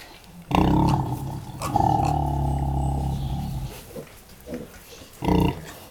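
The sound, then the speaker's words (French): Pigs raised fully outdoors on a farm grunt loudly, starting with a long drawn-out vocal groan, followed by a few shorter, quieter grunts and one more loud burst near the end. “Mes cochons sont élevés donc 100% dehors.”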